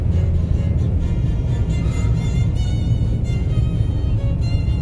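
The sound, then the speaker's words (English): A steady, unbroken low rumble of car interior noise, dominated by deep droning road and engine hum with a faint hiss above it, holding an even level throughout with no voices. “I think I look like an idiot here in the car, but I don't care.”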